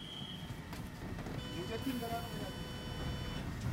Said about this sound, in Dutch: De treinbegeleider duwt zijn sigaret uit en wandelt naar de trein. De trein vertrekt.